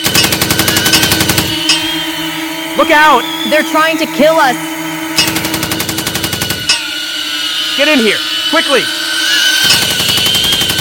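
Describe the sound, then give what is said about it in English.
Three loud bursts of rapid, rattling machine gun fire from attack drones, each lasting a second or two, with frantic shouting voices in the gaps and a steady whine underneath. “They've released killer drones with machine guns.”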